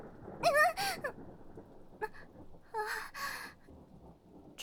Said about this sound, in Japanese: まあ、この雨じゃ仕方ないわよね。雷もすごいし。